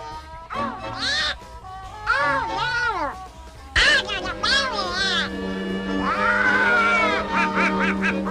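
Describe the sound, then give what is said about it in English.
The cartoon voice of Donald Duck squawks and sputters in rapid, garbled quacking bursts, loud, rising and falling in pitch over several excited phrases with a faint steady tone underneath. “Yeah, it's Donald Duck.”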